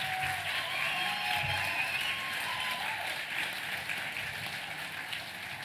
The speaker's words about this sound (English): And if minus 18 can please stand up, they're at the back of the room right now. Everybody on your feet. Everybody, please give these people a round of applause.